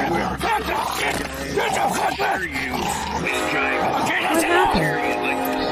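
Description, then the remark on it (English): A dog barks and snarls loudly amid a chaotic scuffle as a man fights with it, its harsh yips and growls tangled with excited human shouting throughout. “He's fighting with his dog.”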